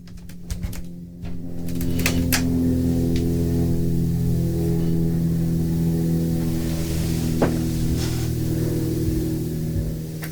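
A helicopter somewhat far away drones steadily, its engine hum holding layered low tones at an even loudness throughout, with a few sharp clicks and taps scattered over it and no voices.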